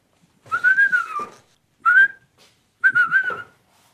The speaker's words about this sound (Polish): Ja uciekam. Pan tu będzie gwizdał. Zapewne.